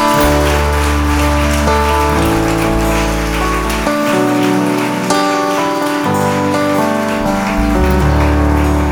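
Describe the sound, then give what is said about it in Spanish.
A church audience claps for the Lord in a dense, continuous wash of applause, with sustained keyboard-like chords playing underneath throughout. No one speaks. “Dale ese aplauso al Señor bien grande.”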